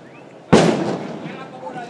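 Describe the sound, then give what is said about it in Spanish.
A single loud, sharp arquebus shot cracks out suddenly, then fades through a short rumbling tail over a faint background hum. “Como podréis comprobar, el trueno del arcabuz es bastante seco.”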